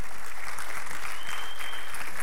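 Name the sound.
audience clapping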